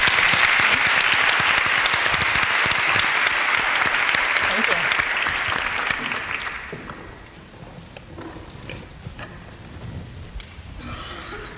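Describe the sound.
Loud, dense audience applause welcoming a speaker on the biology of power, a steady wash of many hands clapping that fades out after about six seconds, leaving a quieter stretch with scattered sounds and faint voices.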